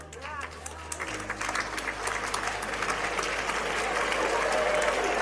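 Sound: parents applauding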